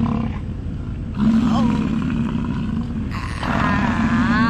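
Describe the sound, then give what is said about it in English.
A human voice imitates a 1,600-pound bull named Howdy Doody mating with another animal: three loud, strained bursts of low, rumbling groans and roars, with wavering pitch and brief dips between them. “So, again, I don't know what it would sound like if the 1,600-pound bull named Howdy Doody would make sweet, passionate love to another animal, but I would imagine it would sound like...”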